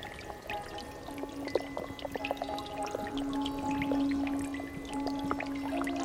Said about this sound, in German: Tropf.